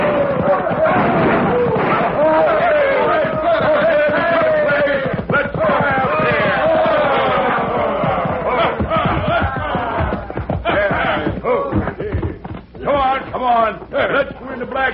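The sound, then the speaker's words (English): A rowdy gang of men on horseback riding into the town of Dos Rios, yelling and whooping together while firing their guns: a loud, dense, unbroken din of shouting that carries on for the whole stretch with hardly a pause. “It all started when a crowd of hoodlums rode into Dos Rios, tearing their lungs and triggering their guns.”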